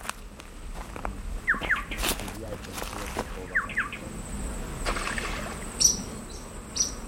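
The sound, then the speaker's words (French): Outdoors by a river, a few short, sharp splashes mark a small white bird plunging into the water and catching a fish, with quick chirping calls and a steady background hiss around them. “Là, ce qu'on vient de entendre, c'est un petit oiseau blanc qui vient de plonger dans l'eau et d'attraper un poisson.”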